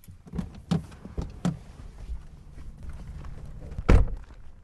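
Someone gets out of a car: a few sharp clicks and bumps, then the door opens and shuts with a solid thunk, followed by a low rumble of shuffling movement and footsteps on the ground as they walk from a service road toward a row of Cadillacs set in the earth.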